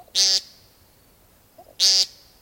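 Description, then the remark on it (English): Two loud, buzzy nasal beeps spaced well apart, each a short harsh rasping note, with faint quiet in between. A male woodcock's peent call, made in the evening as the light gets low, in early spring. “In evening, as the light gets low enough that woodcock are very difficult to see, suddenly the males start making funny little beep sounds.”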